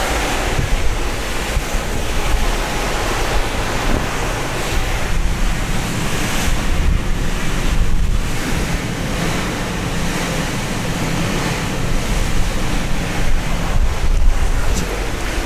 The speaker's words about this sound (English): I'm going to step outside here. Oh, I see. It's very windy out here.